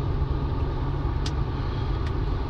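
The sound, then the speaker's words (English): Steady low engine rumble and road noise from inside a moving car merging with traffic, a continuous drone with a couple of brief, faint hissing bursts as it drives along. “And I'm merging with traffic here, so if I...”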